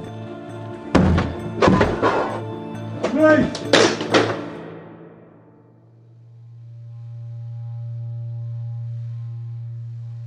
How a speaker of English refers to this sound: gives the signal, and they smash down the door